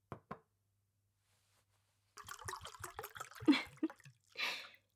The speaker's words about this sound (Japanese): お酒でも飲みましょうか。お仕事お疲れ様の意味も込めて、私に継がせてください。